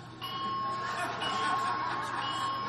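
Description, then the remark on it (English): A fire alarm sounds a steady, piercing electronic tone that starts abruptly and holds without break over a rushing background noise, fairly loud throughout. “I believe that's probably a fire alarm.”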